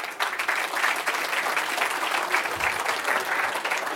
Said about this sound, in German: Und jetzt einmal so gemäßigter, unbesoffener Applaus.